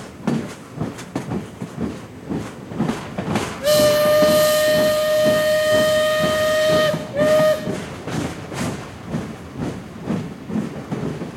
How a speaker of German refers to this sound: Jetzt habt ihr euch wahrscheinlich gewundert, warum ihr im Hintergrund ein Eisenbahnhorn gehört habt und außerdem das Rattern einer Dampfeisenbahn.